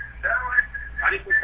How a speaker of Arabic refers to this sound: أغلق صوت التلفزيون وكلمنا من سماعة الهاتف فقط.